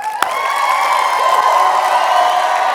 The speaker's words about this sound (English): So if you would be 100% certain, if you would be 100% certain that the information that you're going to receive today is going to radically change your life and your business, how loud would you applaud?